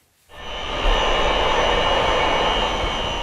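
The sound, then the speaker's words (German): A backwash water pump in a waterworks in Hesse, Germany, starts up after a brief silence and settles into a loud, steady mechanical roar with a high whining hum, with no one speaking. It presses water through fine filter membranes in steel tubes to clean iron or manganese particles from the ultrafiltration plant's filters. “Für den Lärm im Wasserwerk sorgt eine sogenannte Rückspülwasserpumpe.”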